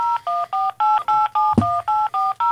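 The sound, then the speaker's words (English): A rapid, steady run of about ten telephone keypad dialing tones as someone calls a doctor, each a short two-pitched beep, fairly loud and evenly spaced, with a brief dull thump midway through and no voices. “Well, I guess I'll just call Dr.”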